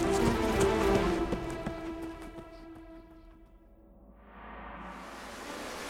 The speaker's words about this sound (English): Why is there water coming in? There wasn't water before you came. What do we do? It's up to my knees.